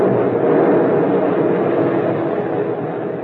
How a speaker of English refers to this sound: He dropped a depth bomb right on that sub. That's one sub won't ever get back.